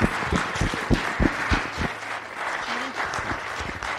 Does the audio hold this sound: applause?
yes